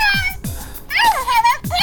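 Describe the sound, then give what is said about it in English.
A pet cat meows repeatedly, a short cry, then a long wavering, drawn-out meow and another starting at the end, loud and whiny. “Yes, you are Hello Kitty, and we're going to say hello to my kitty and listen to all the crazy sounds she makes.”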